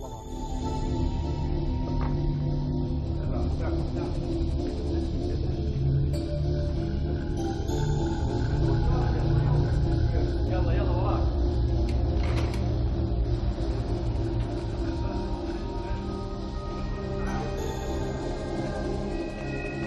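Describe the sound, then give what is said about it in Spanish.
Israeli warplanes drone overhead above the northern Gaza Strip in a steady, loud engine rumble with a tonal hum, holding constant through the whole stretch without pause. “Unos aviones están sobrevolando la zona.”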